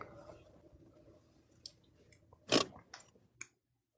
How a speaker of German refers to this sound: Meine Handbremse.